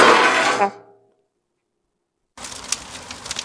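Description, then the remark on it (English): A loud burst of metallic clatter rings out and fades into silence. A stretch of softer scraping with a few sharp clinks follows as pots and pans are moved around on the fire. “Just moving around some pots and pans on the fire.”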